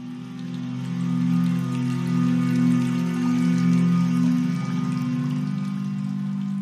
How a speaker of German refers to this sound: Schöne Steine umsäumen das große, flache Wasserbecken. Das sanfte Plätschern des Wassers begleite dich auf deinem Spaziergang über den schönen Platz.